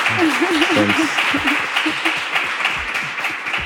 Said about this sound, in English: Well, thank you so much, everyone, for being here today and for sharing this time with us. Can we give a round of applause to our guest?